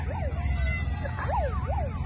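A police car siren whoops in quick rising and falling sweeps, loud, over a steady low engine rumble as the police pull up.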